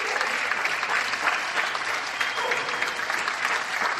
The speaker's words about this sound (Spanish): Y se notan, ¿eh? Se notan los aplausos en los balcones.